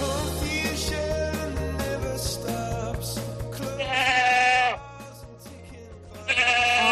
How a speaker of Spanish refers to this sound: Ay, madre mía, cómo están estas ovejas. De vez en cuando se pasean por aquí por el estudio.